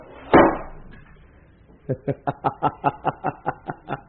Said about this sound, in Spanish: Ayúdame a cerrar la puerta. Empujaron la enorme puerta de acero y...